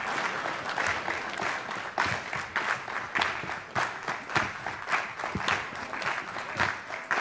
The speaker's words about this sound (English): And then we just speed it up a bit. You need to speed up your clapping.